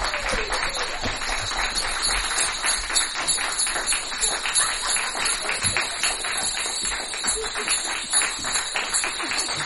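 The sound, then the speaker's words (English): An audience applauds steadily for the full stretch, many hands clapping in a dense, sustained patter with no voices breaking through, welcoming a troupe of performers at a recording session. “let's give a warm welcome to the Seat of Our Pants Players”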